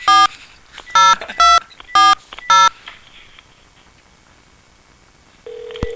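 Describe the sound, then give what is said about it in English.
A phone call is placed to a restaurant in Florida: a quick series of five sharp touch-tone dialing beeps, followed by a pause and then the start of a steady ringback tone on the line, with no talking. “I want to call that restaurant up in Florida”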